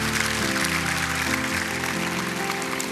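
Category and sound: crowd, audience clapping hands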